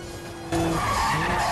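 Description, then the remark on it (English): A car engine hums low, then a loud tire squeal and skid erupt and continue as a pursuing car pulls up alongside during a high-speed car chase. “One of people's cars pull up alongside.”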